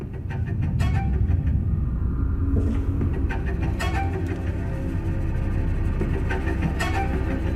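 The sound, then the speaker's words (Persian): A steady car engine rumble while driving, with dense low-frequency droning throughout and faint intermittent rattles and road noise above it, no talking. “حتی 5 دقیقه دیگه میرسم، نزدیکم. ماشینم و جلوی ورودی میبینین؟”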